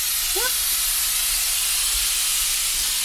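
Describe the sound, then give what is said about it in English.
A pressure cooker cooking dal, its heat switched off after about 10 minutes, releases a steady, loud hiss of steam; a brief high whistle chirps once near the start, then dies away, leaving only the continuous hiss. “After a minute of the heat being switched off, you'll hear the whistling sound abate.”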